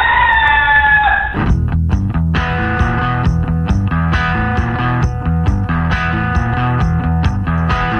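A short, loud rooster crow rings out at the very start, then gives way to loud, rhythmic band music with strumming and steady percussion.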